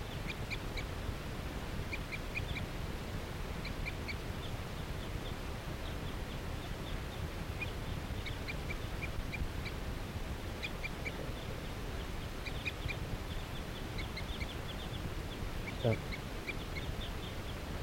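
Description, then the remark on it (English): A wild female bird, perched in a tree along a net near captive birds, calls in short, repeated high-pitched bursts, clustered in quick runs with pauses between, over a steady bed of low rustling background noise. “So according to calls of that wild female.”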